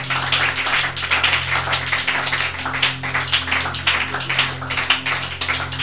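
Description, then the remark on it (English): A crowd claps hands continuously for several seconds in praise of Jesus, a dense, steady patter of many overlapping claps, with a low steady hum underneath and no talking. “Keep exalting Jesus with your hand clap.”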